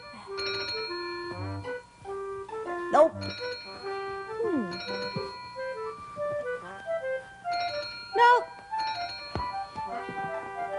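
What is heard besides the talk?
telephone ringing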